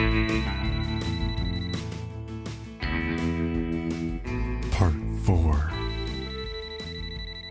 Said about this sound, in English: I'm not sure how differently the night would have gone if Spencer's phone hadn't started ringing right then.